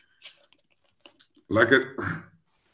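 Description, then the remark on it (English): Quiet mouth clicks and a soft slurp as someone sips a drink, followed by a louder, breathy swallow and exhale lasting under a second. “I'm gonna take a little sip.”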